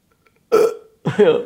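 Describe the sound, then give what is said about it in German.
A woman gives a loud burp, followed after a short pause by a second, longer and more drawn-out belch with a gravelly, voiced rumble. “Hat sie jetzt, glaube ich, hat sie gerade gerülpst?”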